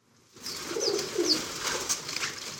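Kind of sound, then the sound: bird, pigeons cooing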